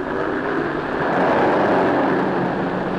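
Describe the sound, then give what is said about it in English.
A pack of stock cars in a national championship race comes out of the fourth corner and roars down the straight, a dense, continuous engine drone that swells louder midway as they pass, with no voices. “The AAA is supervising this national championship event, And here they come out of the fourth corner and down the straight.”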